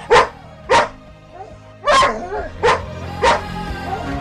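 A dog barks five times in loud, sharp bursts, irregularly spaced, with softer whiny yelps in between. Clear, with no talking.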